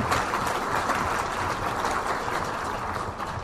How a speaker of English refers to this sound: We've got applause.